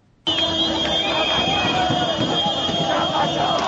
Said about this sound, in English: The wild cheers and car horns of Zimbabweans celebrating the end of Robert Mugabe's iron-fisted rule. After 37 years in power, the 93-year-old president resigned, giving into pressure from his party and Zimbabweans at large.